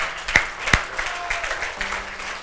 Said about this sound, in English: Come on, let's give God some hand clap. Let's give him some glory.